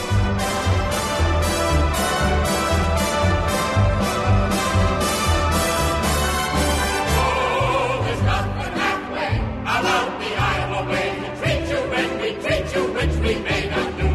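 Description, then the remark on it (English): A lively Broadway-style show tune about Iowa plays loud and continuous, with a full orchestral sound and a steady, punchy rhythm that shifts partway through into a busier, brighter passage. “Some Broadway show tunes about Iowa.”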